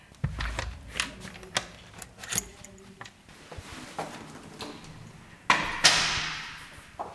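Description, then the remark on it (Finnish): An electronic key unlocks the door of a newly renovated three-room apartment: a run of small clicks, taps and dull thuds, then a louder clunk and a brief rushing swish as the door swings open. “Meillä on tällaiset elektroniset avaimet. Osaatko sä käyttää?”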